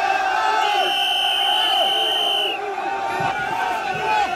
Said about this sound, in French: les slogans qui sont scandés, on les entendait, pour bien rentrer, pénétrer dans le salon de l'automobile